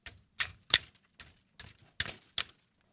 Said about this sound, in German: klopfe dann mit einem Stock einfach auf den Ast